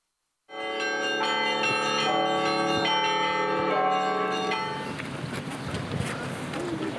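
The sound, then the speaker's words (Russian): Church bells ring a loud, layered peal at the opening of the 17th bell festival "Alekseevskie Perezvony" in Alekseevskoye, Alekseevsky District, Republic of Tatarstan, several bells overlapping in rapid rhythmic strikes, then the ringing gives way to windy outdoor noise and a faint murmur of voices. “В поселке Алексеевское Алексеевского района Республики Татарстан открылся 17-й колокольный фестиваль «Алексеевские перезвоны».”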